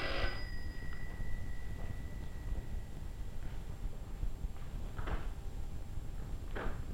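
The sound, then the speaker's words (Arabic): A door being opened, heard as a few soft clicks and rattles of the latch over a steady background hiss, after a brief ringing tone at the start. “لا خليه انا نحل الباب.”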